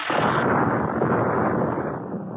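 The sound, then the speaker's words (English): A loud explosion in Cosgrove's observatory bursts in abruptly and rolls on as a dense, rumbling roar that barely fades over a couple of seconds, overwhelming, with no voices. “After the explosion, the darkness descended again, and there was silence.”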